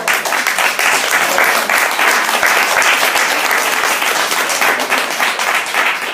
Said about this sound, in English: I think we need to applaud everybody and ourselves